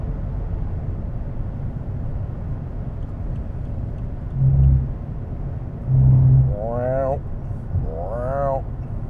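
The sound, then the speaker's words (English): Tires of a car hit road rumble strips twice in quick succession while passing another vehicle, each a short, loud, low droning buzz over a steady engine and road roar, followed by a voice talking. “Rumble strips. You know, I love the rumble strips.”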